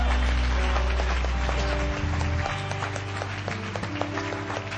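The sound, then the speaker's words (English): An audience gives a clap offering to Jesus, clapping steadily and continuously, the dense applause running the whole time over sustained low musical tones from an organ or keyboard. “Give Him a great clap offering.”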